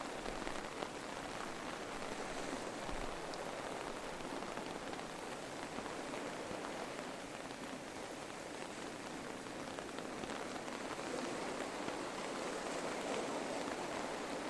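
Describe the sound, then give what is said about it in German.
Steady, gentle rain patters down continuously on a seaside promenade at dusk, a soft even hiss of countless drops on a surface with no voices, holding a constant level throughout. “Sie genießen die Romantik des Augenblicks, während der Regen behutsam auf sie niederprasselt.”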